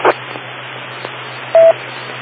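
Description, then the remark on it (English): A short electronic reset tone beeps once, loud and steady, after a brief click, over a low constant hum and faint hiss, with no voices. “I'm getting increasingly confused by these reset tones that are coming on and off and on and off.”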